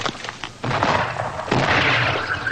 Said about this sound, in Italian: qui a Cadice, mentre ancora tuonano i cannoni è arrivata la notizia che il duca di Angulema ha vinto la sua battaglia contro i liberali spagnoli.